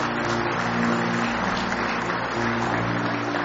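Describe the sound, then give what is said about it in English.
An audience claps their hands together as a hand clap of praise to the Lord, in a dense, steady wash of applause that keeps up at an even level throughout, with a low droning hum running underneath. “Give the Lord a big hand clap of praise if you love him tonight.”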